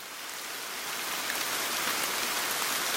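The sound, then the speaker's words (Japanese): Steady rain falls continuously, a dense, loud hiss of drops spattering on a surface, swelling slightly after the first second and holding even throughout with no voices. “そう、でもね、雨さえ降らなければ。 雨？”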